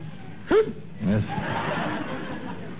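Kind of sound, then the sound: human body sound, hiccups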